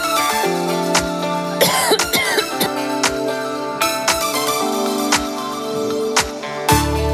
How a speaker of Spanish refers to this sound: Es lo que tiene el directo, que toses.